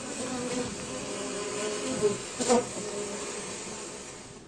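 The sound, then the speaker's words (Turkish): A dense, steady hum of many honey bees buzzing together inside a hive of roughly 60,000 bees, a continuous droning swarm with a couple of louder buzzes rising briefly near the middle. “Bakın bir Koran'da, komanda takriben 60 bin arı yaşıyor.”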